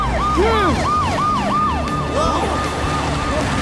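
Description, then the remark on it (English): In the Tayo cartoon, the sirens of emergency vehicles Frank and Alice wail in rapid rising-and-falling sweeps as they make their way through stalled traffic in an emergency, loud, over a steady rumble of traffic noise, several sirens overlapping briefly. “Please make way! It's an emergency!”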